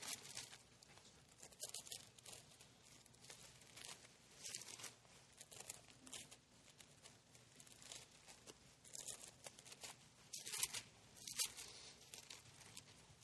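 Many thin Bible pages being turned at once as people look up Exodus chapter 32 and Nehemiah chapter 1, a steady overlapping rustle and crinkle of paper flips, soft, with no one talking.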